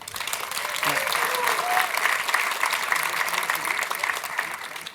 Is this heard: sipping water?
no